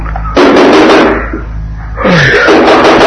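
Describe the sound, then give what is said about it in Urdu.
Loud knocking on a hotel room door early in the morning comes in two bursts with a brief lull between them. No one speaks. “صبح صبح ایک ڈر نے دروازے پر دستک دی.”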